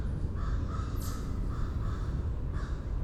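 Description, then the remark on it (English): A lone crow caws repeatedly at a steady pace, about 20 yards from a barred owl, its harsh calls carrying over a constant rumble of outdoor background noise. “And I only hear one crow's voice.”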